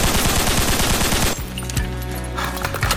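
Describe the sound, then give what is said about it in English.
A loud, rapid burst of gunshots, fired by people in the street and not firecrackers, rattles off in quick succession outdoors, then cuts off abruptly, leaving a quieter background with a few scattered pops. “Anonymous call said people in the street shooting something. It's not firecrackers.”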